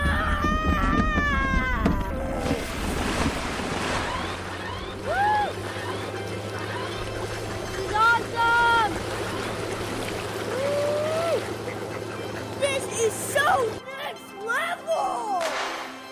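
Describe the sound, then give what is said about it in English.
A kid's motorized little red wagon fitted with flotation devices whirs steadily, then plunges and sloshes through creek water, with splashing and trickling throughout. Excited high voices call out over the water before the motor cuts off near the end. “So that reminds us, too, though, just the sounds of somebody plunging in there”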